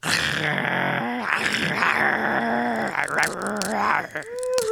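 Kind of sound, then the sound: animal, dog growling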